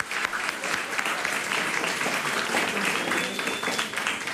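Steady audience applause in a hall fills the whole stretch, a dense wash of many hands clapping at a fairly even, loud level without pauses.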